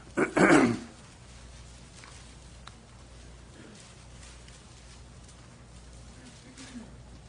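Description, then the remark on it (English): A single loud, rough throat clearing close to the mic at the start, lasting under a second, followed by several seconds of quiet room tone. “I hate to, in front of a microphone, I hate to clear my throat.”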